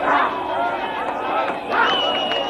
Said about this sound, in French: Les rues de Johannesburg, à l'ordinaire si vide, réchauffées par une foule enthousiaste, noirs et blancs mélangés.